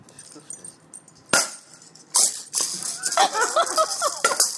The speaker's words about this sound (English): The first sound was the ball being hit, and the second sound was the dog catching it in his teeth.